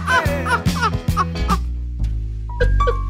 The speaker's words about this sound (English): Hey, don't worry. Go get an expensive security system. It's just birds, you stupid ass.